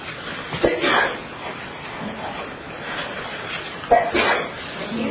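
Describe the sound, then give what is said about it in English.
A sneeze bursts out sharply against a low background murmur, followed a few seconds later by another brief, breathy burst of similar loudness. “Gesundheit.”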